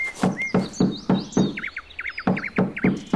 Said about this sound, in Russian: Из вежливости все же стоит постучать.